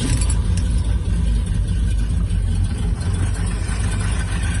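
The 5.8-litre V8 engine of a 1979 Ford Ranchero pickup, started by turning the key, runs with a loud, deep, steady rumble, its low throb holding even throughout with no voices over it.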